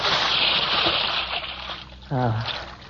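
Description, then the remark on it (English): Water sloshes and hisses steadily as a person slips into a pool from the ladder, with a brief voiced sound near the end. “I'll slip in at the ladder.”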